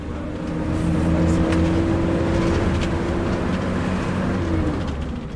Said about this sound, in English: The bus journey is a long one, 8 hours.